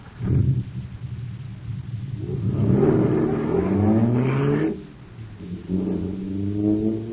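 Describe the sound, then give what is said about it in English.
A supercharged jet car engine, filled with super fuel, roars and revs up with rising, whining harmonics, dips briefly, then surges again, steady and loud with no talking over it. “Wow, this jet car is supercharged now.”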